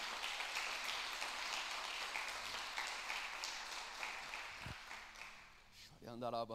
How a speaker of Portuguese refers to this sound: Agradecemos e fazemos isso com a nossa melhor salva de palmas, mas aplauda ele com alegria.